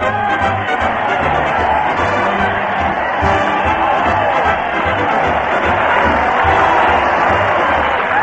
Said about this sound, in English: That crowd cheer Fred Allen as he heads his weekly parade to the Old Town Hall. Fred's leading the band with a farewell sign, followed by those ne'er-do-wells of the stage, the mighty Allen Art Players.